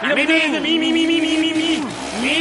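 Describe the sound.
A voice imitates the revving engine of a motorcycle a young man has brought, a buzzing hum that climbs in pitch, holds steady, drops away, then rises again in a short loud burst.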